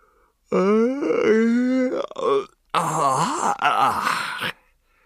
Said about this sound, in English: Davy Byrne, yawning.